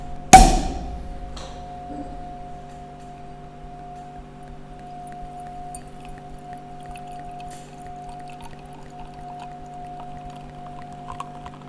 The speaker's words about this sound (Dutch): En nu we het over drinken hebben, moeten we misschien ook eens een fles open doen. Dat is een goed idee, zie. Ik heb hier een fles Oude Kriek 2020 meegenomen.